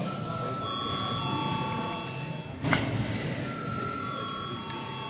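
signal or alarm, parliament voting bell ringing

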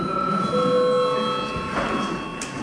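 signal or alarm, parliament chamber bell ringing

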